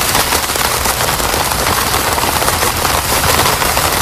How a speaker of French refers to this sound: La pluie sur une tente. Sur une tente.